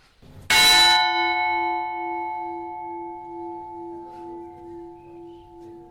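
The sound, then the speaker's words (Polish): A single loud church bell strike rings out, its rich metallic tone humming and slowly fading over several seconds with a gentle wavering pulse. No voices. “Może rozpocznijmy debatę polityczną dzwonami z kościoła.”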